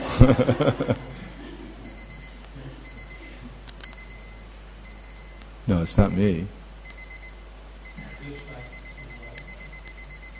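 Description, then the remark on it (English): An alarm clock goes off with a steady run of thin, high electronic beeps repeating throughout, fairly soft in the background while people talk briefly at the start and midway. “It's this clock?”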